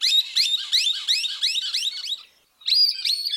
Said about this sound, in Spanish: Bueno, en el podcast de 1000 aves y un fotógrafo, el ave que trajimos para hoy es el chinchero grande.